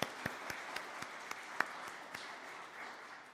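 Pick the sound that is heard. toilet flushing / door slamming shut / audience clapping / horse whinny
audience clapping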